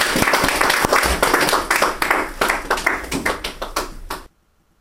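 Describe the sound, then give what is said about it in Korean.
A crowd at a gathering honoring a woman's completed recovery applauds with dense, crackling claps that stay steady and loud for about four seconds, then thin slightly before cutting off abruptly into silence. “다시 한번 박수요.”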